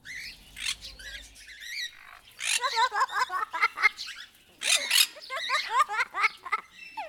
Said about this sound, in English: Parrots are able to talk by imitating sounds they hear. A pet parrot or a parrot in a zoo listens to the things people say and then parrots or copies it back.